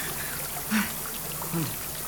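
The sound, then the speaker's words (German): Rising water flows and gurgles in a steady, continuous wash that fills the whole moment, with a couple of brief, muffled vocal sounds rising over it. “Also, ich persönlich will auf jeden Fall nicht herausfinden, was passiert, wenn das Wasser da oben ankommt.”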